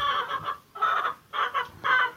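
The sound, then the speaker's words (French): Hens clucking in a henhouse on a sunny morning while it is being cleaned, with many hens in the nesting boxes on fresh straw: a run of short, bright clucks in several bursts with brief pauses between them, fairly loud and with no one talking. “On est dans le poulailler, donc on est mardi aujourd'hui et je nettoie le poulailler.”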